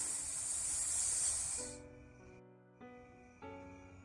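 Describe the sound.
A voice imitates a snake with a long, bright, steady hiss lasting nearly two seconds. It then cuts off and gives way to soft sustained musical tones.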